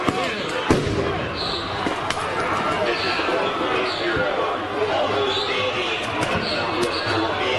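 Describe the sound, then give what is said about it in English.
Several sharp, loud flashbang grenade blasts, fired by police into a crowd of anti-racist protesters, go off at irregular intervals over a constant wash of crowd noise and indistinct voices, each bang a sudden crack that quickly fades. “The police are firing tons of flashbangs into the crowd.”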